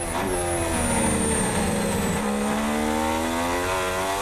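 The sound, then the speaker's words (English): A pack of Formula One racing cars roars away together at the race start, engines screaming and rising in pitch as they accelerate hard, loud, with a steady high whine layered over the rumble. “It's lights out and away we go. And who's got the best start out of the front?”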